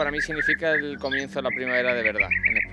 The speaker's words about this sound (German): So klingt der regenbogenfarbene Bienenfresser. Ein Prachtexemplar von Vogel, finden alle, außer die Bienen, versteht sich.